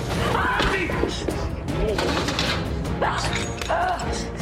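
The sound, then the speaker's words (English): A shark man forces open a door with loud, continuous crashing and grinding, broken by heavy thuds, while strained, voice-like groans and cries rise and fall over the din. “They race to put on spacesuits, but a shark man forces open their door.”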